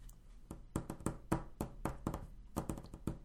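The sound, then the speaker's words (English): A tap dancing sound effect played as a transition: a quick, uneven run of about a dozen sharp, clicky taps and knocks, some in rapid clusters, with no voices over them. “That was our tap dancing cricket announce the deals and steals.”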